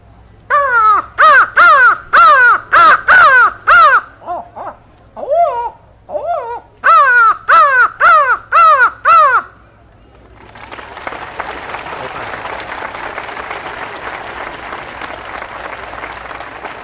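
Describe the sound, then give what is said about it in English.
A person imitates a crow with loud, harsh caws delivered in quick bursts of several calls, then an audience breaks into steady, sustained applause. “Well, I call the crow for you now.”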